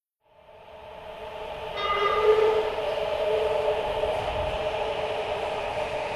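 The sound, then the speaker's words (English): A train pulling into a station platform, its low rumble swelling in over a few seconds while a sustained, chord-like metallic whine or horn tone rings steadily above it, fairly loud. “You get down to the train platform and appreciate the cool wind or breeze or whatever you call the rush of air the train brings before it arrives, before you even see it or its lights, because of how much it cools your sweaty head.”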